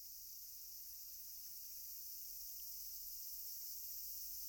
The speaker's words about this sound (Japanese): またセミもうるさくなってきたし、まだまだ暑いね。